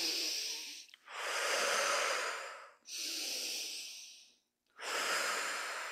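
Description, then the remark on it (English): Slow, deliberate box breathing for relaxation, with airy inhales and exhales alternating in long, steady phases and brief pauses between them; the drawn-out exhales sound longer than the inhales. No one speaks. “Very slow. That exhale is longer than the inhale.”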